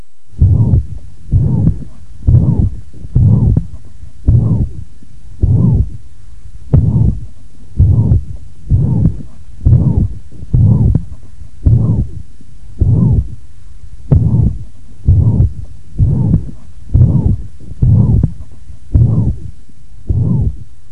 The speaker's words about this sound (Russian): Прослушайте запись, сделанную в первой точке аускультации у больной с ревматической недостаточностью митрального клапана на фоне брадисистолической формы мерцательной аритмии.